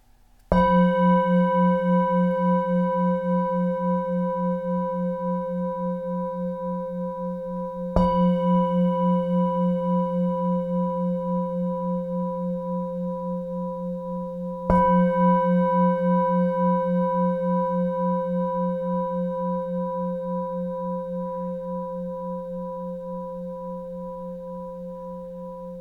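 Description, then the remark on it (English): A meditation bell is struck three times, about seven seconds apart. Each strike leaves a low, rich, humming tone with shimmering overtones that slowly fades, with no voices. “At the sound of the bell, maintaining your attention on your breath for the length of the sound of the bell.”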